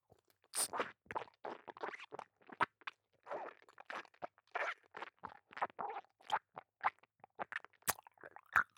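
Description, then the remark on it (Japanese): Wet, crunchy chewing very close to the ear, a steady run of quick smacking bites and squishes for several seconds, with no talking. “剥がれたチンカスの方は、あなたの耳元で咀嚼いたしましょう。”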